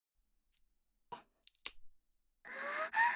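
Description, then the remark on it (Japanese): Disposable wooden chopsticks being split apart and splitting cleanly: a few sharp, dry clicks and snaps, then a louder drawn-out creaking crackle as the wood separates. No one speaks. “綺麗に割れた。”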